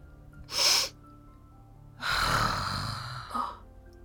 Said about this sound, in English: I have to blow my nose. I'm drowning.